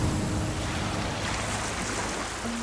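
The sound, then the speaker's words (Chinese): Ocean waves crash onto rocks on the Atlantic shore in a loud, continuous roar of surf and spray, with a breezy hiss over the water and no voices. “一秒钟，大西洋岸边的海浪冲上了礁石。”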